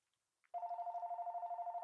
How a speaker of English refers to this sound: Oop, there's my phone. Wait for that to get answered.